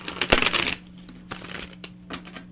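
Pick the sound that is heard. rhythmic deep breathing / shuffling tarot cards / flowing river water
shuffling tarot cards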